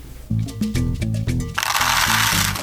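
Açaí seeds in handmade bracelets rattle in a quick series of dry clicks, then swell into a dense, continuous shaking hiss, over a steady low tonal backing with no voices.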